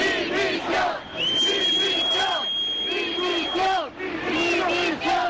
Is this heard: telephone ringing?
no